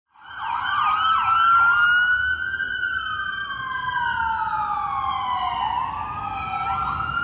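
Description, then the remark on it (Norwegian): Loud police car sirens wail and sweep up and down in pitch, several overlapping, as many police cars drive down a street toward the courthouse in Lower Manhattan, New York, over a steady rumble of traffic. “Nå er det tjukt av politibiler som kjører nedover gata mot rettsbygningen her i New York.”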